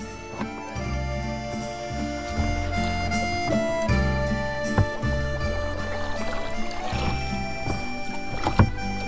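A boat being rowed out onto a lake, with steady rhythmic strokes, water swishing around the oars, and creaking tones running underneath. Moderately loud, with no voices.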